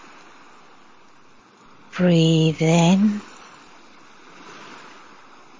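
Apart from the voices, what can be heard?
ocean waves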